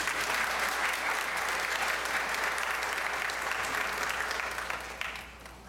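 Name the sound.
audience applause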